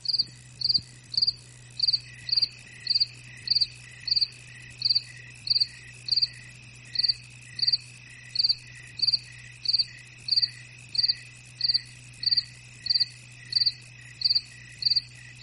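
Crickets chirp in a steady, regular rhythm, roughly two pulses per second, loud, over a faint low hum with no talking.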